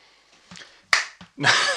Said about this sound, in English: That is a meek clap. It was quite meek, wasn't from it? From someone who's got, like, man hands.